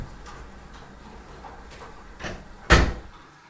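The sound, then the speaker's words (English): A door shuts with a single solid thud near the end, preceded by a softer bump and a few faint ticking taps. No voices. “The door shuts.”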